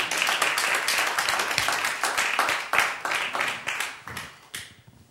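Audience applause: a dense, steady wash of many hands clapping, loud and continuous for about five seconds before thinning out and tapering off at the end.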